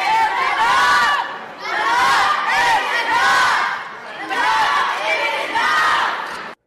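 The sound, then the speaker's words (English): A crowd of young voices chants the protest slogan "No action, no peace" in unison, loud, repeating the same short phrase in rhythmic bursts with brief pauses between. “Yeah, I mean, they're acting like children because they are children, but they're being raised by adults who are also children, just screaming, enough is enough, do something.”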